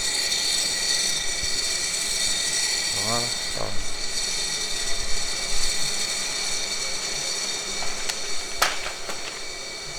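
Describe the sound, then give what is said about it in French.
A steady, loud hiss of steam runs throughout without pause as steam is jetted onto a moulded felt hat to raise its crushed fibres, with a faint whine above it. A man says a single brief word partway through. “Avec la vapeur, les fibres qui ont été écrasées quand on a moulé le chapeau, bien avec la vapeur, ça les fait remonter.”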